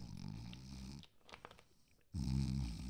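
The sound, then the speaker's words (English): A voice imitates the heavy snoring of a man sleeping in his car: two loud, rumbling, low snores with a brief breathy pause between them and no talking. “Deep breathing, really heavy snoring.”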